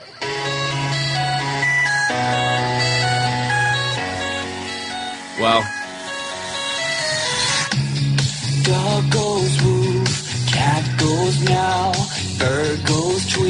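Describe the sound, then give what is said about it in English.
A pop song plays continuously from a cylindrical mini Bluetooth speaker about 2 inches long and 2 inches wide, read from its built-in micro SD card slot; a male voice sings steadily over sustained synth chords and a bouncy beat, fairly loud. “What you're hearing there is music right off of the micro SD card slot that's built right in.”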